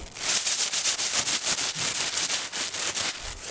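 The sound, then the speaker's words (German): A plastic bag rustles and crinkles, a steady run of quick, papery crackles lasting a few seconds with no voices. “Das war das Rascheln einer Plastiktüte.”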